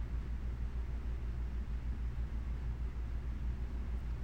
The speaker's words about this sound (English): I hear the little mini fan in the next room.